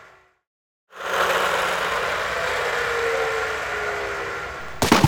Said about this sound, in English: I play with my toy car. Wow, it's fast.